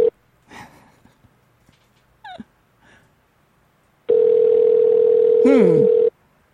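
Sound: telephone dial tone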